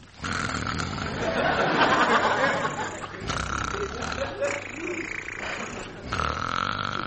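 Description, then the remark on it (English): A man's voice imitates snoring in exaggerated, comic fashion, with long rasping, grunting breaths in three drawn-out stretches, loud; performed by Mr. Seacombe, whose character Seagoon is disguised as a snore. “Seacombe does all his own snoring and never uses a stand-in.”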